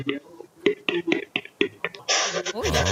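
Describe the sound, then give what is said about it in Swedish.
A boy's voice imitates a capercaillie display: a series of sharp clicking knocks, then a hissing, scraping rush and a warbling, wavering tone at the end. “Hej, tjäder.”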